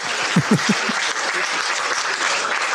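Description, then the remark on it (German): Steady audience applause fills the whole stretch, a dense wash of many hands clapping at even loudness, with a few louder low claps or thumps standing out near the start. “Den Applaus, den nehmen wir noch eben mit.”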